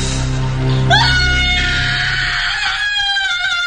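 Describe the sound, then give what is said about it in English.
A loud, piercing scream from the last moments of the film Troll 2 rises sharply and is held for nearly three seconds, shrill, after a brief low rumbling background at the start. “I released the same piercing shriek.”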